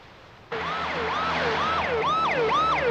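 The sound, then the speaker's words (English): An ambulance siren from a speeding ambulance bursts in loudly after a brief quiet moment, its wailing tones sweeping up and down in rapid repeating cycles over a low engine rumble. “Bond and Holly are strapped down on stretchers in a speeding ambulance”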